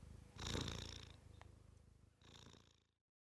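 A cat purrs softly, a continuous low rumble that swells in two breathy phases, each carrying a faint raspy buzz, with no voices present.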